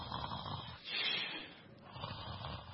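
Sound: imitated snoring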